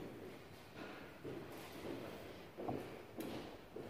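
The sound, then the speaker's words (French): A door is pushed shut, with a few muffled clunks and scraping knocks spread over a few seconds against a low background hum, and no one speaking. “Voilà, il va y avoir de l'aide pour fermer la porte.”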